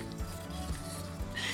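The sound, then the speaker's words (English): Steady chopping on a wooden board, three dull knocks about half a second apart over a low hum, with no one talking. “Keep going with the chopping, okay?”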